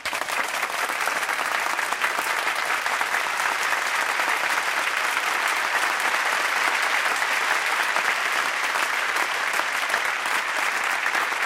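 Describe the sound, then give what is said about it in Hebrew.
A large audience at a live concert applauds steadily for the whole stretch, a dense, sustained wash of clapping with no pauses and no voices standing out. “אני רוצה שתעזרו לי מחיאות כפיים מהחברים שלנו”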